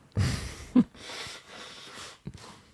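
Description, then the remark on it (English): Someone blows their nose in several forceful, breathy bursts, one ending in a brief honk, then a final short blow. It is moderately loud with no talking. “I'm going to blow my nose.”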